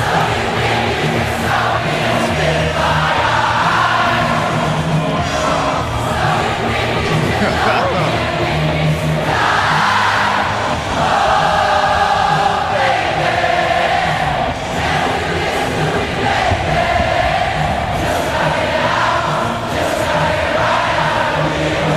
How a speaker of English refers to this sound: Have been amazing to be in that crowd, because the concert hasn't even started. Wow. And you have the sense of camaraderie around you. Oh, yeah. As 65,000 people are singing a song together, huh?